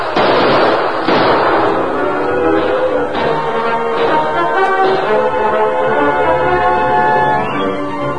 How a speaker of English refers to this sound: Keep up the gunfire, boys, and sneak your way in closer. If we don't get Taggart by bullets, we'll get him by fire.